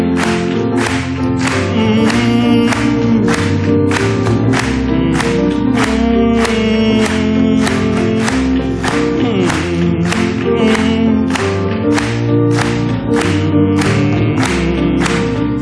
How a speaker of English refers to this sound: Let's just clap it to him.